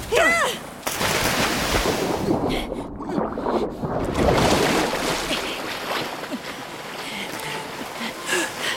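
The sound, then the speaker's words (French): People leap overboard from a sinking ship: a sudden loud splash, then continuous churning water and rumbling, crashing noise fill the scene, with sharp bursts and faint cries under the din. “Vous allez devoir sauter.”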